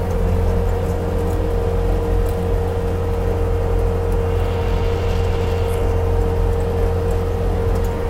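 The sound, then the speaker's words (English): A steady, continuous rumble of road traffic and idling engines, with a low droning hum and a faint whine on top, holding an even loudness throughout with no voices. “I realize that I'm a bit of a hindrance to traffic.”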